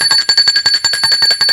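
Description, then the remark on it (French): A doorbell at the front door rings at 11 pm, continuously, its clapper rattling rapidly against a bright, high-pitched bell for over a second. The ringing is loud and steady, with no voices. “On a sonné à la porte.”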